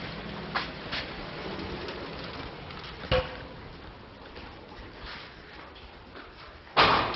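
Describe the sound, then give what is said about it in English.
Building doors open as people enter, amid a steady background hum, with a few sharp clicks and a thud, then a louder rushing clatter near the end. No one speaks. “And we're at the doors.”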